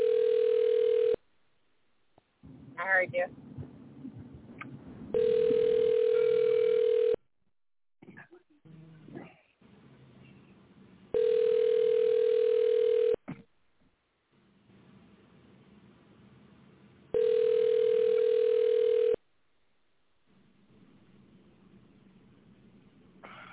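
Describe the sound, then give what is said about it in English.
A phone call rings out with four steady, evenly spaced ringback tones, each about two seconds long. Faint scuffling, a few whimper-like sounds and a brief voice fill the gaps between rings. “All right, you want me to call? I'm calling.”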